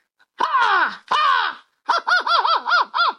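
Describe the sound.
A person imitates an American crow's caw: two long, drawn-out hoarse caws, then a quick rhythmic run of about six shorter caws, loud with no other talking.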